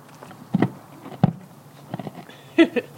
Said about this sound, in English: There's nothing this horse won't eat.